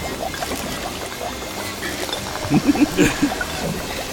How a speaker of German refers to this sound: Da britzelt es aber und blubbert.